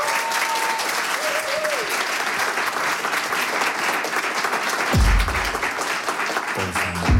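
Loud, sustained studio audience applause in Studio 1 for a live music act about to play new songs on stage, a dense wash of clapping that holds steady throughout, with a few brief tones and low thumps emerging beneath it toward the end.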